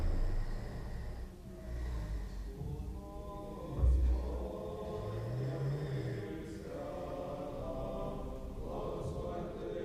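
A person snoring in a room in the morning, in slow, heavy cycles, with rough snorting inhales and low rumbling breaths repeating; no one speaks.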